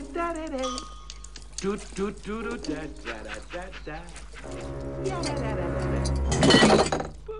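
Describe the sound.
Voices carry on for several seconds, then near the end a glass jar containing frogs tips over on the floor and shatters with a sudden, loud crash and a brief bright clinking of pieces.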